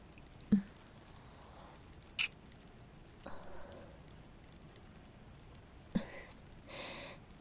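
Soft, steady rain patters in the background, a quiet continuous hiss broken by a few sharper drops and taps. There is no voice.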